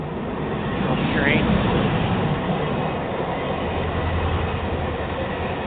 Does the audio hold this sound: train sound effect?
yes